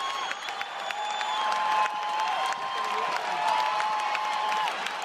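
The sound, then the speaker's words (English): The crowd at the 2013 U.S. Open final between Rafael Nadal and Novak Djokovic cheers wildly in the final moments, a dense, steady roar of applause and shouting with whistles and whoops rising above it, loud and sustained throughout. “The tennis crowd going wild there in the final very un-Wimbledon moments of the Rafael Nadal-Novak Djokovic U.S.”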